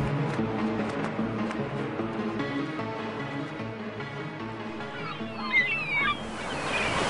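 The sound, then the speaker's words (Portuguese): Ocean waves wash steadily onto a beach on a sunny day in a continuous, moderately loud roar of surf, with faint background sounds layered beneath. “Que sol! Que mar! Essa água deve estar maravilhosa.”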